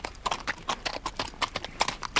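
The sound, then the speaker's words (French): Horse hooves clip-clop in a steady walking rhythm, around a dozen crisp strikes on a hard surface, with no voices over them. “Celui-ci, après avoir sans doute marché un certain temps, s'était endormi lui aussi à l'ombre d'un bouleau.”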